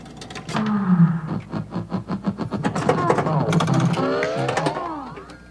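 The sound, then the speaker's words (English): A pinball machine with newly installed sound and speech chips powers up: a rapid, steady run of mechanical clicks and buzzing pulses gives way to rising, warbling electronic tones that sweep upward and hold loudly to the end. “Let me close this door. Would you like to move first? Power up. Power up.”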